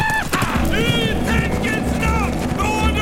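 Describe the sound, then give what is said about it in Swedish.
A horse gallops with a steady, driving rhythm of hoofbeats, while repeated high, wavering cries ride over the pounding throughout. “Nu får vi se vad den här hästen går för.”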